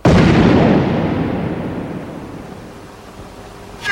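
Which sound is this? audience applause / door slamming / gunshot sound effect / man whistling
gunshot sound effect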